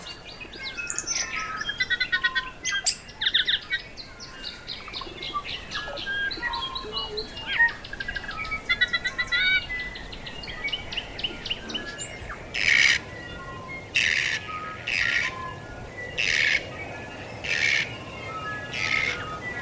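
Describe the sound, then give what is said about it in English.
A dense dawn chorus of New Zealand forest birds such as kokako, huia, tui and bellbird, with many overlapping chirps, whistles and trills early on, then a series of loud, bright repeated calls ringing out at regular intervals. “The kokako, huia, tui, and the bellbird all came together for a resounding dawn chorus.”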